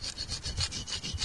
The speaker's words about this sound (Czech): A tak nějak znělo písátko na břidlicové tabulce, kterou děti dříve běžně používali ve školách místo papíru a tušky.